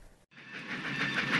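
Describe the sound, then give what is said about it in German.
Steam train wheels rattle steadily on the rails after a brief gap, a dense rumbling clatter with hissing and squealing tones on top, fairly loud, with no voices. “Nu kann ein all dort Rätren von der Räder hören.”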